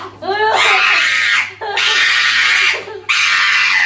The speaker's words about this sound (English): Is this the pug screaming? It is the pug screaming. Yeah, this pug is why screaming. He puts those. Up with the clacking of the nails. Okay, he's being held up and being trimmed right now. You can hear the trimming.